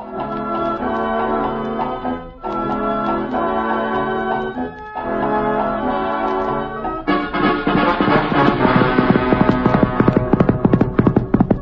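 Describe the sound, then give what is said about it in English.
Steady clip-clopping of horse hooves as Texas Jack rides Reginald the Wonder Horse up to the Bar Cheerio Ranch in Arizona on a hot day, along with lively tuneful music, in three repeating phrases before the music swells fuller and busier toward the end. No one speaks. “The film begins as Texas Jack, our ruthless and yet beloved cowhand, rides up to the ranch on Reginald the Wonder Horse.”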